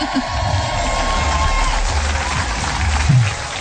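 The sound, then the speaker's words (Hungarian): A studio audience claps for an initiative supporting the kindergartens of Kalocsa, a steady wash of clapping and crowd noise running for a few seconds at a fairly loud, even level, with a low murmur beneath it and a small swell near the end. “Hiszem, hogy ide most jár egy taps, mindjárt ehhez a kezdeményezéshez.”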